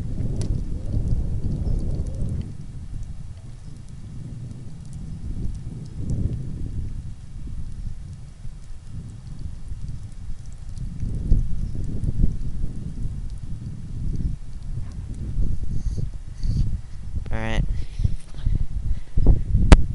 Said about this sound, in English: And let's just listen to the rain a little bit more here, and then we'll end this soundseeing tour.